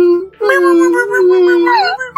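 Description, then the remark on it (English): A fairly loud, drawn-out whimpering whine from a man, wavering in pitch and sliding upward at the end, with a brief break near the start and no words. “He whimpers.”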